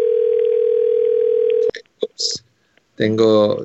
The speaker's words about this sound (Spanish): Estaba sonando el teléfono.